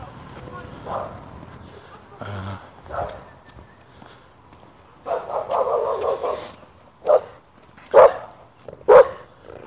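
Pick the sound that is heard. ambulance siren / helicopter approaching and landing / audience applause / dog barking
dog barking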